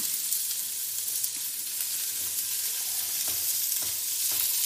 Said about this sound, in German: Und ich würde sagen, wir hauen jetzt erstmal Sellerie, Zwiebeln und Knoblauch in Öl hast du schon reingehauen. Genau. In unser Töpfchen rein und braten das mal so ein bisschen an.